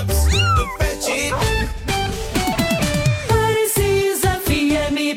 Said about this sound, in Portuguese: No fundo, o gato não quer atrapalhar o seu trabalho. Ele só quer fazer a parte da cena.